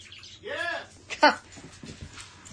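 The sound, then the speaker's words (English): As dogs come in, acting wildly, a dog gives a high, rising-and-falling whimper, then one sharp, loud bark. Fainter excited yips and whines follow in the background. “My dogs are coming in and they're acting crazy.”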